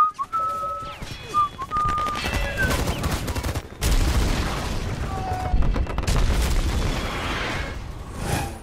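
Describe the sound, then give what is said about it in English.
Dense, rapid bursts of gunfire from a commercial for the video game Call of Duty Black Ops 2, set in Los Angeles as a future war zone, crackle almost nonstop, mixed with booming blasts and high whistling tones early on, pausing briefly midway before the loud barrage resumes. “A commercial for Call of Duty Black Ops 2, Los Angeles as a future war zone, and the video game Adam Lanza, the Newtown shooter, was reportedly fond of.”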